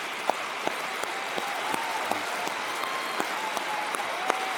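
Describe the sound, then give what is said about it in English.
An audience applauding the work of the Lord in the lives of those standing for salvation, a dense wash of many hands clapping together with a few sharper individual claps standing out, moderately loud and continuous throughout. “If you're hearing the Lord today and you know today is the day of your salvation, could you please stand right now so we could applaud the work of the Lord in your life for all he's doing?”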